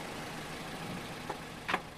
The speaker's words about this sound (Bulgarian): Най-после колата спира пред мястото на събитието.